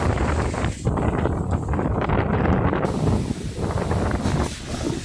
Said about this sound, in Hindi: सहदेव के घर के पास मौजूद हिंद महासागर की लहरों का शोर वहां से साफ सुनाई देता है।